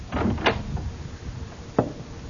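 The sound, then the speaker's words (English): A bookshop door on Main Street in Pleasantville opens at dusk with a short burst of rattling and scraping, then a quiet pause before one sharp click, like a latch catching. No one speaks. “I went back there just at dusk, and it went in the door.”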